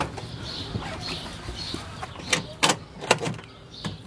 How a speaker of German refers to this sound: Schon wieder die Taube. Ganz nah an mir vorbei.